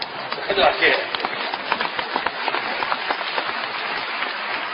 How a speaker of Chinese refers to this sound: 对， 其实我也知道啊，鼓掌都是为了于谦老师， 又来了啊。